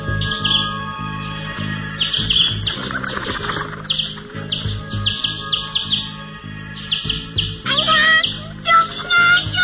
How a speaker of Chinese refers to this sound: 有一群紧张的发抖的小鸟，鼓动着翅膀，在他的房间里飞来飞去。